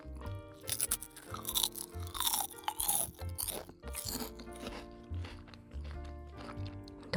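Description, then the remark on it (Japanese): Loud, crisp crunching as a sauce rice cracker is bitten and chewed, with repeated sharp cracks and grinding bites in an uneven rhythm, and no talking. “ソースせんべいめちゃくちゃいい音でしょ。”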